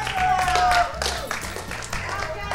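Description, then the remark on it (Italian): An audience at Atla breaks into steady applause for a DJ, a dense wash of many hands clapping at once, with some crowd voices mixed in underneath. “Un bel applauso”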